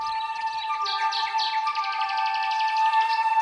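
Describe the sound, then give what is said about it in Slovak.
Busy, high-pitched chirping from several baby birds that have fallen to the ground, rapid and overlapping, continuous for a few seconds with a steady tonal hum beneath it. “Zachráň moje vtáčatka. Na zem vypadli.”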